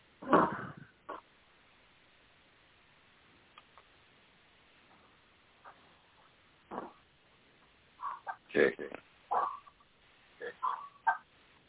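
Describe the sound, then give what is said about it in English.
A puppy whimpers in distress, giving short, high-pitched whines and yelps that come in scattered bursts, clustering more rapidly toward the end, against an otherwise quiet background. “Who's hurting the puppy?”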